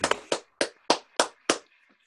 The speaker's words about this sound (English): Let's have a big round of applause for Lee, ladies and gentlemen.